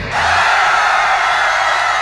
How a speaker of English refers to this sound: All you gotta do is scream as loud, scream as loud, scream as loud, scream as loud, scream as loud, loud, loud, loud. Scream as loud as you can.